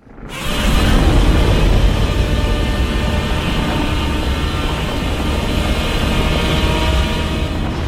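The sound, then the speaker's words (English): The newly redesigned Godzilla roar from the 2014 movie, rising quickly and holding loud and unbroken for about seven seconds, a deep rumbling bellow with harsh, shrieking tonal streaks running through it. “Stomping, and then the roar, and 2014, here's the newly redesigned roar from the upcoming movie.”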